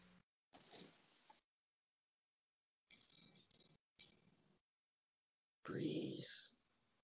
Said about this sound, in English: Just make sure this cat is not possessed.